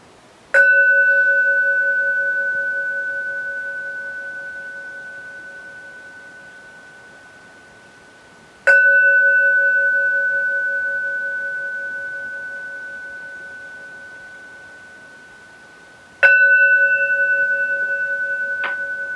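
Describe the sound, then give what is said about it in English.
A meditation bell is struck three times, each strike ringing out clearly and fading slowly into a long, pure tone before the next. The setting is quiet, with no voices. “And when you hear the sound of the bell, let the sound itself, as it fades, bring you back to yourself.”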